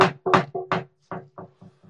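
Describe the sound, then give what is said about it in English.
A hand raps on wood eight times in a quick, steady rhythm, the first four knocks loud, the last four growing softer and fading away. “Let's say knock on wood.”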